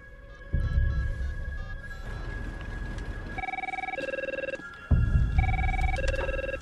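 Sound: cell phone ringing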